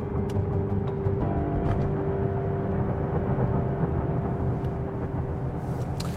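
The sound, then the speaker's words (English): Steady low rumble of a car driving toward Roseville, Michigan, heard from inside the cabin, with a faint engine whine and occasional light clicks and ticks over the constant drone. “So, a few weeks later, I'm in the car heading to Roseville.”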